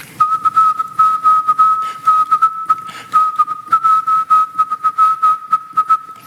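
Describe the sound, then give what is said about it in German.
A Morse code general call on amateur radio: a steady, high-pitched tone keyed on and off in quick dots and dashes, loud over a constant layer of crackly radio static, with no voices. “Morsen.”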